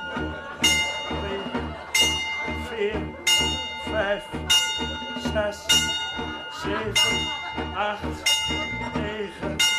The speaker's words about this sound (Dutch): als het kerstnacht is geworden en de kerkklok 12 uur slaat, zit ze.